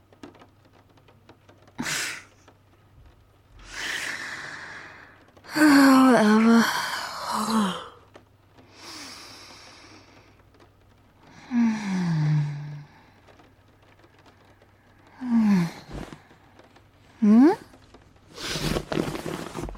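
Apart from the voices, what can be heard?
heavy breathing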